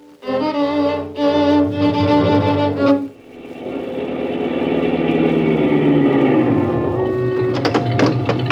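vehicle, car engine running

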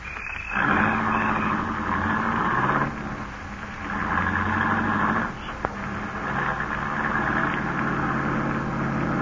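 vehicle, car engine running

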